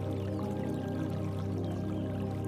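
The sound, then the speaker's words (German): A small brook trickles and burbles steadily as it runs out of the undergrowth through a meadow, blended with a soft, sustained tonal hum underneath, the flow staying even and moderately quiet throughout with no voices. “Ein kleiner Bach bahnt sich den Weg aus dem Unterholz durch die Wiese bis in die weite Ferne.”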